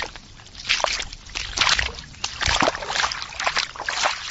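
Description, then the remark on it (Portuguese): Footsteps slosh through ankle-deep water at a steady walking pace, each step a wet splash, with water churning and dribbling continuously between strides. “Imagine toda vez que você for ao banheiro ter que caminhar por um lugar em que a água fica acima dos seus pés.”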